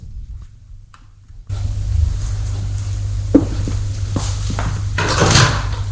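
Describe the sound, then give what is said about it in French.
The door of an all-white, hospital-like room, facing the bed, opens after a quiet start: a low hum swells in, followed by a sharp latch click and a few soft knocks, then a brighter creaking swish near the end. “La porte qui vient de s'ouvrir.”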